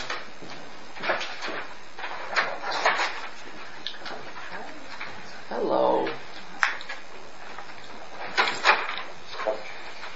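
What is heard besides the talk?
door opening and closing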